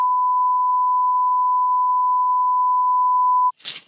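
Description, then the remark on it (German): A loud, steady censor bleep masks a spoken phone number, holding one pure tone for about three and a half seconds, then cutting off abruptly into a brief hissy burst. “Oh, das piepst du raus, ey.”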